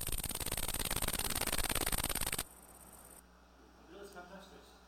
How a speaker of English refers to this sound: Almost. It's the great green bush cricket.